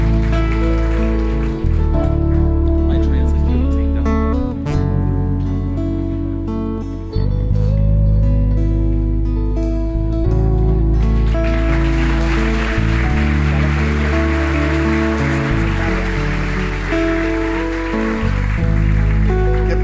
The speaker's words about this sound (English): Let's clap for those folks. Vamos a darle un aplauso por todos let's ellos.